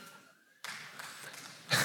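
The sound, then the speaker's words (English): After a quiet moment, an audience breaks into steady clapping that holds at an even level, then swells louder in a final burst. “Don't clap for that.”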